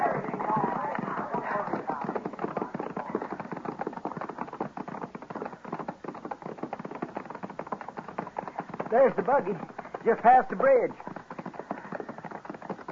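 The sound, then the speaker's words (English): Horses' hooves clip-clop in a quick, steady rhythm throughout, prominent, while a couple of people speak briefly over the hoofbeats. “Come on, grab a horse.”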